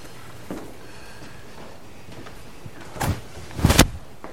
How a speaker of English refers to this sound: Okay. All right. Now I'm going to open the doors.